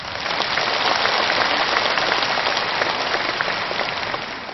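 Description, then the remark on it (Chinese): A Buddhist audience claps warmly and steadily in thanks, a dense wash of many hands that holds an even loudness for several seconds before easing slightly at the end, with no voices. “所以今天他们的到来也是护法，让我们全场和我们视听剧场的所有的佛友们以热烈的掌声再一次对他们表示感谢。”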